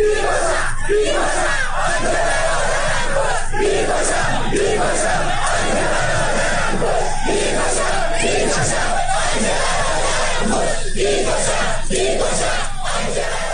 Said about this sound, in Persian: معترضان هم شامگاه یک شنبه مراسم عزاداری دولتی در آبادان را با سر دادن شعار متوقف کرده و مانع از سخنرانی محسن حیدری آل کثیر، نماینده خوزستان در مجلس خبرگان شدند.